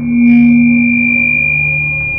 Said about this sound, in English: Then the mic screeched.